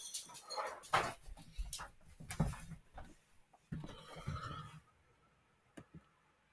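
A dog whines and gives short excited yelps while it is being given its food, fairly faint, with scattered rustling and clattering in between and a sharp click near the end.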